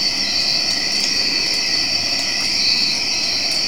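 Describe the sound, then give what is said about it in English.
A steady, dense chorus of crickets chirping continuously, a high shimmering drone filling the whole scene at an even, fairly loud level with no voices, played as a selected crickets sound in a sound app. “Crickets chirping. And now they're both going to play.”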